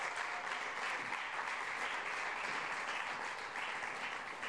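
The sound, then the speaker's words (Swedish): A large audience applauds steadily, a dense wash of many hands clapping at once that holds at an even level for several seconds with no voices rising above it. “Ge dem en jättestor applåd.”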